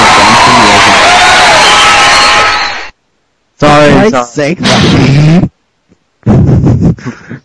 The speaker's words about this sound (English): Don't tell me the sound effects. You will think that there are people listening to our show cheering.